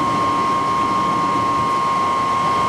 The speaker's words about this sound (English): Each one of these gates in succession is going to be opening to allow water to flow into the canal system from the river. And with a high-pitched whine, the floodgates opened.